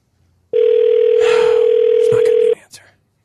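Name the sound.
phone call ringing tone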